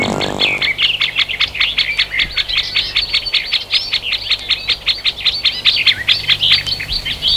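Woodland park ambience in the Bois de Boulogne, Paris, filled with steady, rapid bird chirping and tweeting, fairly loud, repeating in a quick rhythm over a faint low background hum, with no voices.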